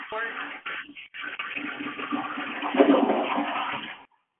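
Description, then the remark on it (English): A toilet flushes in a steady, rushing gush of water that lasts about four seconds before cutting off abruptly. It sounds thin and muffled, picked up through someone's unmuted phone. “Somebody please needs to mute their phone. There was water running or something.”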